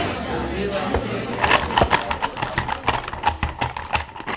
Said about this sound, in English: having a little problem with her hand-cranked vintage ice crusher, but looks like you got through